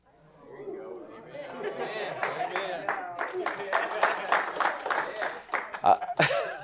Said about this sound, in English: That's all the guys with the beards clapping.